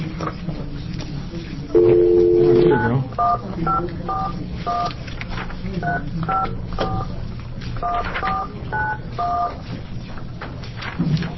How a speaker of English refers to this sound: Let's open a public hearing on House Bill 2440, and we'll test our technology capability here to see if we can actually get a phone call through.